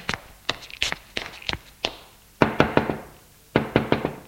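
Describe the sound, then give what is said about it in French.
Knocking on a bedroom door: a series of sharp wooden raps, first scattered and uneven, then two quick bursts of four knocks separated by a short pause. No voices. “Ils vont frapper à la porte de la chambre.”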